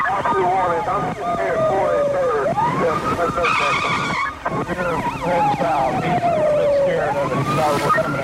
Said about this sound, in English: The biker takes a shortcut straight into oncoming traffic. The officer keeps his distance, hoping his siren will warn other drivers.